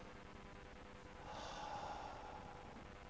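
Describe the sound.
A person imitates the single sudden final gasping breath of a dying woman in her bed, a short, harsh, breathy rush of air, standing out briefly from a quiet background with no speech.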